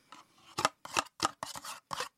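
A spoon scrapes the inside of an empty yogurt container in a break room in about six quick, rasping strokes at an uneven rhythm, each a bright scratchy burst with short pauses between, and no one talking.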